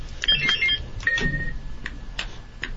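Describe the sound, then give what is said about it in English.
Quiz buzzers are tested in a buzzer check before the second round of a quiz: a quick run of short, high electronic beeps, then a longer sustained tone, followed by a few sharp clicks, with no talking. “So let's do a quick buzzer check and make sure everybody's buzzers are working before we start the second round.”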